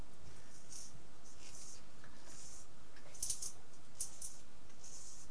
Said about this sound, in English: It's a funny click. It was a funny click. Let's have a little look in there. No, pencil's still getting sharp. We'll keep on going.